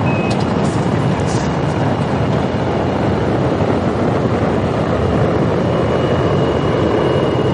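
A space shuttle's main engines and solid rocket boosters roar at ignition and liftoff, a loud, continuous rumble with crackling texture that stays steady and overwhelming for the whole stretch, with no voices over it.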